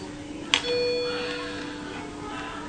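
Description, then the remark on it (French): An electronic heart rate monitor alarm sounds a steady, sustained chime-like tone with bright overtones for under a second, bracketed by two sharp clicks over a low background hum. The preset alarm goes off because the heart rate reads 75 and the alarm was set at 70. “Là ça sonne parce que mes alarmes sont pré-réglées. Là c'était quoi? Là c'était la fréquence cardiaque, mais rien d'inquiétant, elle était à 75, mais c'est parce que j'ai réglé l'alarme à 70, donc voilà.”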